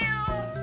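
A single short cat meow, clear and close, with a bright tonal whine that dips and settles over under a second, heard alone without any talking.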